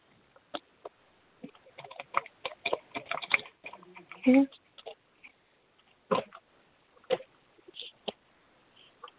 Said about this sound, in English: One second. Shuffling the cards.